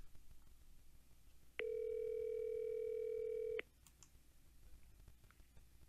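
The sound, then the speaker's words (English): A steady telephone tone of an outgoing call sounds for about two seconds, starting and stopping abruptly with clicks, loud against a faint background hiss. “Let's make this call. Here we go. Hold on. We call him right now.”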